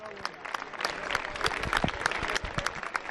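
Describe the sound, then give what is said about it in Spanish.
An audience claps steadily for about three seconds, a dense patter of many hands with sharp individual claps standing out, holding at a fairly even loudness throughout, applauding bullfighter Antonio Sánchez Puerto as he presents a painting at an event of the bullfighting schools of Ciudad Real and Toledo. “Aplauso fuerte para el maestro Antonio Sánchez Puerto”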